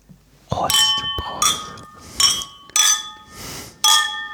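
household object, glasses clinking

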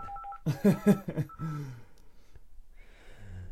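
signal or alarm, telephone ringing

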